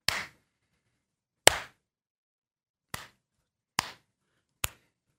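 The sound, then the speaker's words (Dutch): Five sharp hand claps ring out alone against silence, each a crisp, bright smack with a short tail, spaced unevenly and coming a little quicker toward the end. “Wil je nog even klappen voor de synchronisatie alsjeblieft?”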